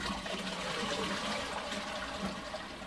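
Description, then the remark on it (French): A toilet flushes with a steady, full rush of water that stays loud throughout, a broad hissing gush with no voices. “Et qu'est-ce qu'on fait quand on a tiré la chasse?”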